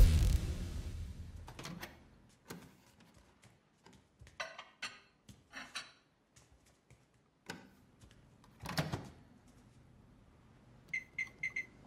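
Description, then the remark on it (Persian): A slow-running elevator: a low rumble at first, then scattered mechanical clicks, clunks and thumps at uneven intervals, with a brief burst of short high beeps at the end. No one speaks. “آسانسوره؟ چرا انقدر کنده؟”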